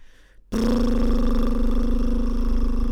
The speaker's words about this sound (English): Okay, this warm-up is a lip bubble. And I guess you try and make yourself sound a bit like a tractor or something like that. So you've got to have nice, relaxed cheeks and lips to, in order to do this. So you're just going to do this.